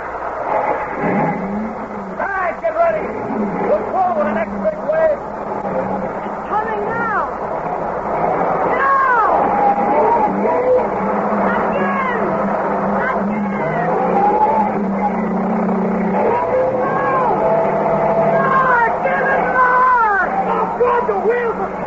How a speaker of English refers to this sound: Won't work. The wheels just spin in this sand. It won't work.